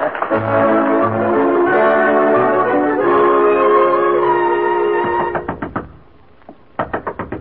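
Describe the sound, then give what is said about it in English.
Sustained tonal music plays for several seconds, then it stops and someone raps on the door of the room where Miss Fawcett is dressing, in two quick bursts of sharp knocks separated by a short pause. “No use knocking.”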